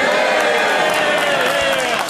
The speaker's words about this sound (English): The people cheering there were obviously people who are not fans of Trump, as you could hear.